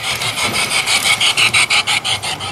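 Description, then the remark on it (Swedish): A toy train, set going by pressing a button, chugs past with a steady run of hissing, raspy chuffs, the pulses growing sharper and more distinct toward the end, with no voices over it. “Man kan bara trycka på knappen där så, ja, ni hör, så kommer ett litet tåg tuffande här och åker förbi mig.”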